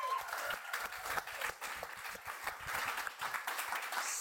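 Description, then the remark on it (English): A crowd applauds steadily for several seconds for a guest from Desperado Club, a dense, even patter of many hands clapping at once at moderate volume. “Well, can I just have everybody give a hearty round of applause to the amazing”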